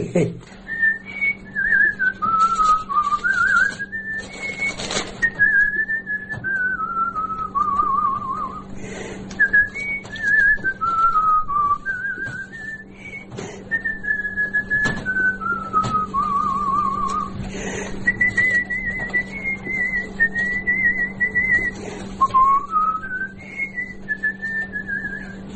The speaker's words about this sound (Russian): Я с детства свистел, так все и насвистываю. Сейчас ведь вот тоже все соседи смотрят. Старое все что-то насвистывает, ходит. А у меня само собой получается. Все, хожу и все насвистываю что-нибудь. Какую-нибудь песню вспомню, насвистываю.